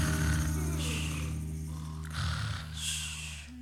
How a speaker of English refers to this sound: What's that? Sounds like a rumble, slow and deep. It's the animals snoring, they're still asleep.